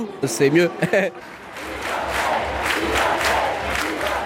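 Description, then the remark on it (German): A stadium crowd chants "Timothée" loudly for about a second, with voices rising in unison, for French athlete Timothée Adolphe after he wins his heat, then breaks into a sustained, roaring wall of cheering that stays loud until the end. “Sobald ein Franzose kommt, schreien alle laut.”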